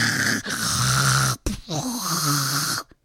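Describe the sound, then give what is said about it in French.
A man's voice imitates his own snoring in two long, rasping breaths, each a loud, drawn-out rattle with a short gap between them, clear with no other talk. “Ah oui, monsieur, je sais tout, et comment je ronfle ? Comme ça.”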